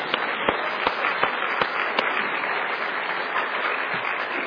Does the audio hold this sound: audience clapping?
yes